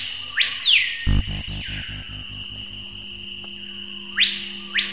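A screaming piha, a bird whose song is among the most emblematic of the Amazon rainforest and is called paipaio in French Guiana, sings: two loud, ringing whistled phrases that sweep sharply upward, several seconds apart, over a steady high insect-like drone and a brief burst of low throbbing pulses.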